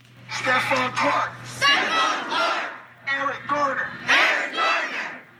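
A large crowd on a protest march chants loudly in unison, shouting short rhythmic phrases in repeated bursts with brief pauses between, over a steady low hum.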